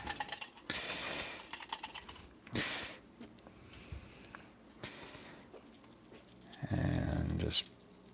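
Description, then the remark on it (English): A boiled egg rattles and clatters inside a small, empty drinking glass being twirled to loosen its shell, in quick, uneven bursts of hard clicking and tapping, ending in a louder, dense flurry of rattling. “Get a small glass, a small drinking glass, and you don't have to put any water in it. Just kind of twirl it around.”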